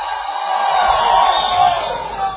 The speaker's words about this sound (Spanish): Los de acá dentro de la sala permaneceremos en silencio y les pediremos a los que están allá atrás que griten.